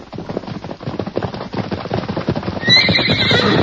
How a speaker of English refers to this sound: Hey, look yonder there. Why, it's Silver. Look at that horse run. That fellow must have broken loose from whoever was holding him. Come on, Silver. Come on, boy.